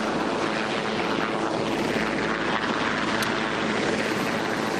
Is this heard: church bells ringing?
no